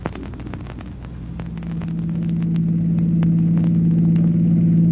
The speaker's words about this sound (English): Oh, this is thrilling, Chief Cody. A ride in the chief's own car.